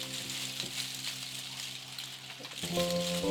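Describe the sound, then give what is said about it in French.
A homemade instrument made from plastic milk bottles gives a steady, airy rustling hiss like wind through leaves, over a low sustained hum that swells louder near the end. “Ça fait un joli bruit de vent dans les, je sais pas, dans les feuilles, dans les arbres, dans les vagues même.”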